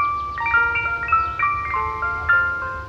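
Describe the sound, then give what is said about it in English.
Keystone Resort's proprietary summer musical tone: a bright, tinkling ice cream truck style jingle plays a simple looping melody of chime-like notes, clear and fairly loud, with a low rumble underneath and no voices. “Now, you may say, hey, that's ice cream truck music.”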